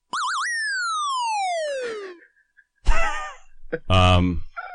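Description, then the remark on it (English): A retro Donkey Kong video game sound effect: a quick warbling electronic tone slides into one long descending pitch sweep that fades out, then people start talking. “What is that? Is it just Donkey Kong?”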